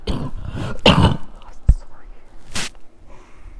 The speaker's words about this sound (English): I'm going to cough.